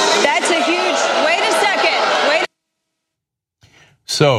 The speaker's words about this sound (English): So some people in the crowd, obviously very unhappy. One person shouted out murderer.